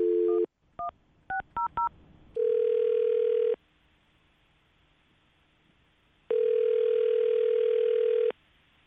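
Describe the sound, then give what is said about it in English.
A brief dial tone and a quick run of keypad dialing beeps as someone phones a woman, then the outgoing call's ringback tone rings twice, each long steady buzz separated by a pause of silence. Clear, no talking. “Okay, I'm going to call her right now, get her on the phone, and find out what went wrong.”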